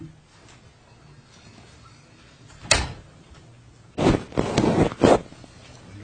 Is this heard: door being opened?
yes